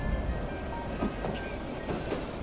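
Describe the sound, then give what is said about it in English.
A train rolls steadily backwards along the rails with a deep continuous rumble, faint clickety-clack beats recurring every half second or so. No voices are heard. “Pay no mind to our train's backwards motion, dear traveler.”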